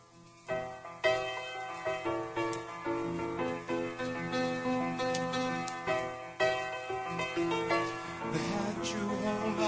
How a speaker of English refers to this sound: Hear it, hear it. Ticking, ticking.